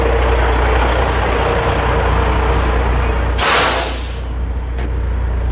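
A big water tank truck rumbles loudly, its deep engine drone steady, then a sharp, bright hiss of air brakes bursts out for about a second before the rumble continues.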